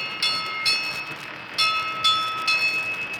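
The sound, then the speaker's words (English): A steamboat's bell rings five times as a signal to the engine room, two quick strikes, a short pause, then three more, each clang ringing on with a bright metallic hum. It is fairly loud, with no voices. “I gotta handle the bell with one hand and my megaphone with the other.”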